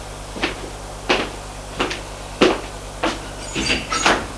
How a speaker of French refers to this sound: Elle quitte l'appartement. Elle va ouvrir la porte qui est en face du sien.